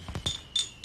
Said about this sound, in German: wo wir doch hier die Silvesterparty zusammen müssen wir mal zusammen anstoßen. Wir stoßen an und du sagst, wie es heißt, ne?